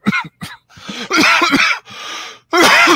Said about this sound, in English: Don't be planning any long trips with that cough you got. Oh, no, man. He's recovered. I'm recovering.